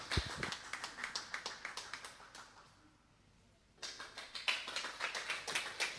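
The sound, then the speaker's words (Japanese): Audience applause welcoming a singer's song performed with piano, in two bursts of steady, rhythmic clapping, broken by a short quieter pause in the middle before the clapping picks back up at similar loudness. No one speaks. “どうぞ拍手をお送りください。”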